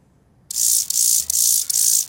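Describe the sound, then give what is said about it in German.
A Chorthippus mollis grasshopper's song: a loud run of hissing, high-pitched buzzy bursts, about four of them with short gaps, beginning abruptly after a brief silence, with no voices. “Das ist der verkannte Grashüpfer, heisst er.”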